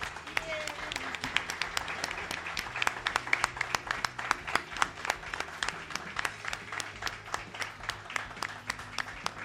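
An audience at a congress breaks into sustained applause for the organizers, the ASES association, with dense overlapping claps and sharp transients continuing steadily across the whole stretch at a fairly loud level.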